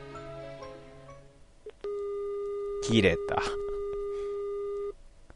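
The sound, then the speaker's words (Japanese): After a mobile phone call cuts off, the line drops into a steady electronic tone that holds for about three seconds, briefly roughened by a couple of noisy bursts, following some faint earlier voice-like sounds. “切れた。”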